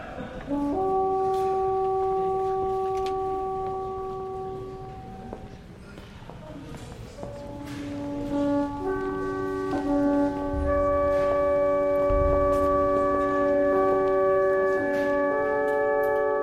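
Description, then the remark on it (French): Several large curved virtual Roman cornu horns of Pompeii, great curved trumpets carried around the elbow and shoulder, sound long, sustained brassy notes, first a low pair, then more horns join in a droning chord that builds and holds, with faint background rumble and thuds. “ce sont les cornues de Pompéi. Les cornues sont ces sortes de grandes trompettes courbes qu'on porte autour du coude et de l'épaule.”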